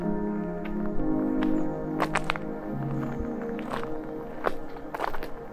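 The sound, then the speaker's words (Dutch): Footsteps crunch along an outdoor path on the Dwingelderveld heath, several steps at an uneven pace, moderately loud, over a steady background hum, as people walk in fresh, pleasant walking weather. “We lopen door het Dwingelder Veld.”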